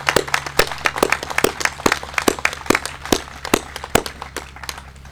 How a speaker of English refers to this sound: Please join me, and let's give those brave men and women a round of applause.